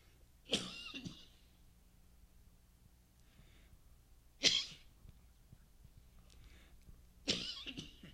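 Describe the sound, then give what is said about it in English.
Three sharp, explosive coughs from a person during a sermon, spaced a few seconds apart, each a short harsh burst against a quiet background with a faint low hum. “Unless you want to hear me coughing for an entire sermon.”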